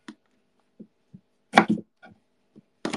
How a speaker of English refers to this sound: I'm just chopping some cherry tomatoes.